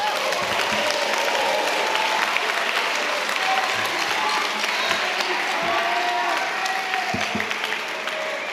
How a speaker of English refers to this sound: If you give them a round of applause real quick.